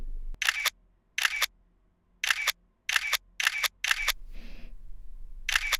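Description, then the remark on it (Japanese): A series of sharp, bright camera shutter clicks, about seven in all, fired at irregular intervals with brief silent gaps, plus a soft breathy rustle partway through. “なんだか私、写真を撮られるときに感じる気恥ずかしさが薄まってどんどん楽しくなってきてしまいました。”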